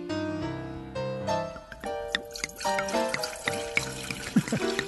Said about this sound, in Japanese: はい、 今日はこの自然号を、うんうん、お持ちさせていただいておりますが、 はい、 まあ、中で安心して飲めるお酒ということで、はい、まあ、風評被害がある福島のお酒を ね、うん、ね、ぜひとも応援したいということで選ばせていただきました、はい、うん、では、継がさせていただきたいと思います。